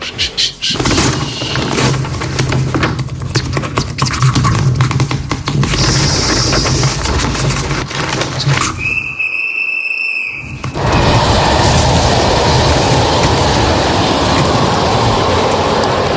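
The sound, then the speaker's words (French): A small toy train in a band's library clatters and rattles along steadily, breaks for a short high-pitched whistle toot, then resumes its busy, noisy whirring run. No one speaks. “Mais que fait donc ce petit train dans la bibliothèque de la bande ?”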